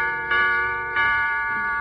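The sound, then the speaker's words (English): A clock chimes the hour, two bright bell-like strikes about two-thirds of a second apart, each ringing out and lingering over the next, clear with no talking. “Hickory dickory dock, the mouse ran up the clock. The clock struck four.”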